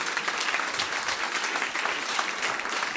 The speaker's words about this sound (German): kommt ihr bitte nach vorne, gebt uns einen herzlichen Applaus.